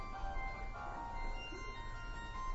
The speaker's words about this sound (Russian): И Харе Кришна, можно выключить эти мобильники, пожалуйста?